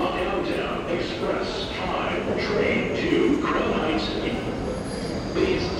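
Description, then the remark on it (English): A subway train rumbles steadily through an underground station, a dense, loud roar with faint metallic squeals rising at intervals and indistinct voices mixed into the din. “So now we are descending into the subway.”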